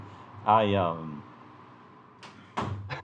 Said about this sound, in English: And can you close the door for me? Thanks.